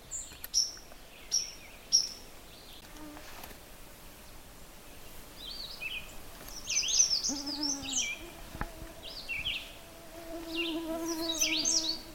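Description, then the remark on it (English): Two birds sing outdoors. One repeats a short, steady high phrase followed by pauses, while the other adds busier, warbling bursts, over a faint insect-like background hum. “There's two birds singing. One is kind of a reliable song. It's a steady phrase and a pause.”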